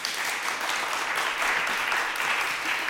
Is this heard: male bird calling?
no